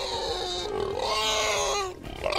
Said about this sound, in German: Da stell dir mal vor, Bauer Ludwig aus Buxtehude oder woher auch immer lässt sich das Grunzen seiner Schweine tätowieren.